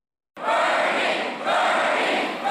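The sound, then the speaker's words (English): A crowd of several thousand, many of them college students, cheers and roars loudly at a Bernie Sanders rally at the Morgantown Event Center, West Virginia, on a Thursday night, a dense wall of shouting voices that starts abruptly after a moment of silence and swells again midway. “And at his final stop in the University City, Sanders' focus on student loan debt was well received by the many college students in the crowd.”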